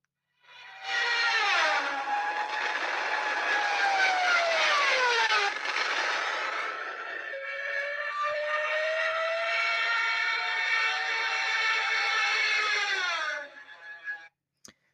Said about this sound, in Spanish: Y aquí les voy a poner cómo sonaba la bocina de la sirena del Stuka para que más o menos entiendan y se puedan transportar. Imagínense estar atrincherado y de la nada escuchar este sonido.